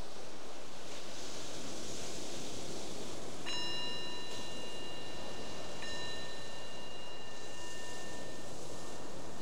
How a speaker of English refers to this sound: So the bell is the invitation to bring this awareness back to the surface from that exploration, and just notice how it is right now in the mind and the body.